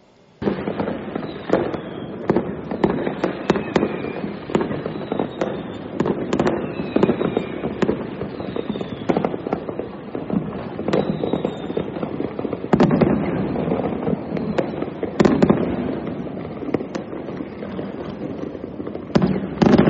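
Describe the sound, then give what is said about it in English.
A dense, continuous barrage of firecrackers and fireworks bursting throughout the area at a New Year celebration in the JB area of Malaysia, sharp cracks and pops overlapping nonstop with occasional louder bangs and faint whistling rockets. “This magnificent display of firecrackers being fired.”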